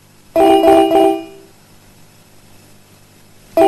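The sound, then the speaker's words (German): A phone call ringing tone while calling two people: a quick burst of three electronic beeps, then a pause of several seconds before the tone starts again. Loud, with no talking. “ich rufe jetzt die Hanna und den Cypher an”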